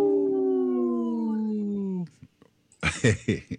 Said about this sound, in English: People that are watching this on Facebook Live or YouTube will always pull up a little wolf howling. And I don't know, some days that makes me laugh more than others, but today it made me laugh.